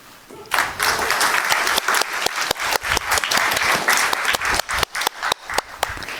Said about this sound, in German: Super, vielen lieben Dank an die Gruppe Privacy Helper. Ich würde sagen, wir geben noch einen großen Applaus für die Gruppe, die gerade war, und für die nächste Gruppe, die kommt.